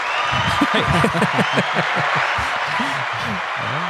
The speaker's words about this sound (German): Das ist irgendwie mal ein Applaus wert oder irgendwie sowas.